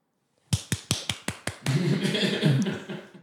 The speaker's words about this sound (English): Just so audience members know, I was doing the cards, not anything else. I thought you were clapping for yourself. No, you know when you walk by the strip and they hit the cards for the ladies? In their hands?